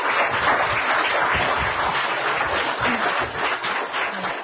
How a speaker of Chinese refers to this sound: 现在请大家以鼓动自己的双手，以热烈的掌声欢迎我们的法师莅临。